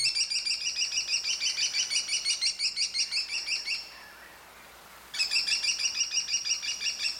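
A kestrel gives rapid, shrill strings of repeated high calls, a long run of sharp notes, a brief pause, then another quick burst, with no voices present.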